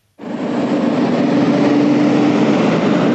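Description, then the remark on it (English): A heavy coal truck roars past by a highway in Logan County, West Virginia, its loud, steady engine rumble and low droning hum starting abruptly and holding for about three seconds, with no voices. “That coal truck that just went by, he wasn't running half as much last year.”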